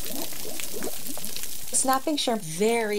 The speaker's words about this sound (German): Aber es gibt noch eine Lärmquelle, deren Auftreten dieser Theorie nun zu widersprechen scheint. Das Knallen von Krebsen. Es klingt wie brutzelnder Speck in der Pfanne.